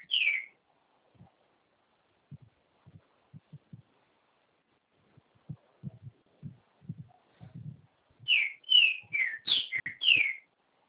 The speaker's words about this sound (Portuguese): E esse passarinho que está cantando aí, Vera? Ele gosta de cantar esse aí, hein?